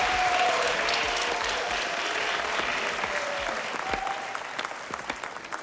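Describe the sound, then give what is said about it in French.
An audience applauds the first contestants of a dance contest, a dense wash of many hands clapping at a fairly even level for several seconds, thinning slightly toward the end, with faint crowd murmur beneath. “Voici nos premiers concurrents, les applaudissements.”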